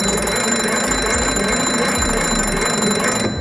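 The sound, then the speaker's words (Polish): The bell of a pre-war local-battery (MB) telephone shown at an exhibition rings continuously and loudly for the whole stretch, a dense metallic jangle with rapid clattering strikes and bright high overtones, cutting off abruptly at the end. “Żeby z niego zadzwonić, to trzeba było wysłać sygnał, prąd dzwonienia do poczty.”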